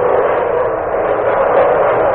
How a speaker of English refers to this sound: We hear those planes over here. Can I close this?